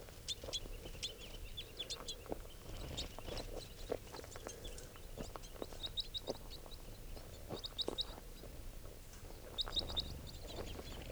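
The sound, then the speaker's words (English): A flock of about ten crossbills, two red and the rest females and juveniles, calling with many short, high, sharp chip notes repeated in loose bursts over a steady low rumble. No one speaks. “There are probably about 10 crossbills here.”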